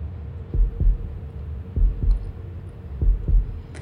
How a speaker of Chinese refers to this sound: 啊，就连你的心跳都越来越快了呢。来，让我好好听听。